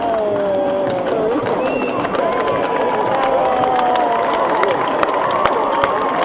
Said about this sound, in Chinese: 人拍手咧，因为终于只马咧识行啦。